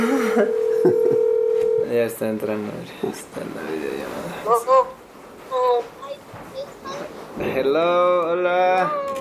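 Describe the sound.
A video call's steady electronic dialing ring tone sounds for about two seconds in the late afternoon, followed by a few short beeps, then voices talk over faint background noise with brief high-pitched sounds.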